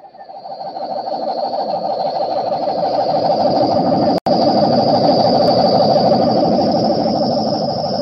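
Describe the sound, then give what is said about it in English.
A loud, sustained rumbling roar of a passing meteor over Maple Street, a tree-lined street, in late summer at 6:43 p.m., swells up in the first second and holds steady, with a thin high whine above it and a split-second dropout midway. “At the sound of the roar and the flash of light, it will be precisely 6:43 p.m. on Maple Street.”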